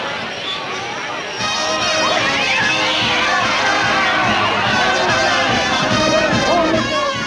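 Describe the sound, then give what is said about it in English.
A dense crowd of townspeople, photographers and band members on a train station platform, talking and calling out all at once as a man steps off a passenger train; a loud, continuous babble of overlapping voices that swells after the first second and stays lively throughout. “Dozens of people crowd around Alvin as he steps off the train.”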